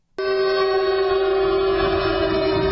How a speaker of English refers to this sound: Trump has been indicted, and that means it's time to start the show with air raid sirens.